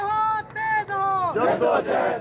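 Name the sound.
protesters chanting slogans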